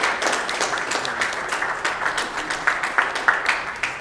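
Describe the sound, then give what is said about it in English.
A crowd in Miami applauds Dr. Saifedean Ammous steadily for about four seconds, a dense wash of many hands with a few sharper individual claps standing out. There is no talking over it. “Let's give a round of applause for Dr. Ammous, or Saifedean.”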